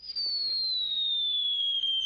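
A single high, steady whistle slowly slides downward in pitch for about two seconds, like a firework rocket shrieking as it climbs. No burst follows, and there is no talking.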